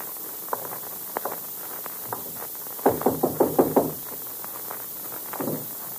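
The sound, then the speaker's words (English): A sharp knock on a door on the top floor of a building, then a quick burst of about six firm raps in a row, with a few softer scattered taps before and after against a faint hiss. “We'll knock once.”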